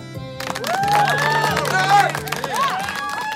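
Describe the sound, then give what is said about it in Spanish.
A burst of applause begins after a brief moment and keeps going steadily, dense clapping from a small crowd mixed with some cheering voices, applauding a story written by a 9-year-old child. “Nos vamos al aplauso, ¿no? Para Ara.”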